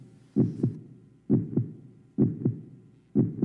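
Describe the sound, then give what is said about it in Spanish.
A steady human heartbeat with a clear double thump, lub-dub pairs of dilation and contraction repeating about four times at a calm, even pace, low and muffled as if heard through a chest, with no voices. “Si usted siente dos golpes seguidos, uno es el de dilatación, que es cuando el corazón atrae la sangre.”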